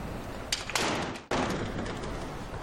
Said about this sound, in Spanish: Cierren la puerta.